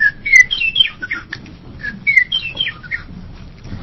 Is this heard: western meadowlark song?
yes